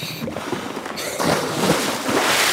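Steady water noise near a boat about 10 miles off the Alabama coast, then a loud splash as a diver with a scuba tank strapped to his back drops backwards into the Gulf of Mexico, followed by continuous rushing, churning water and bubbles.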